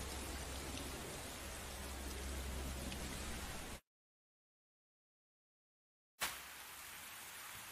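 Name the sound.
rain falling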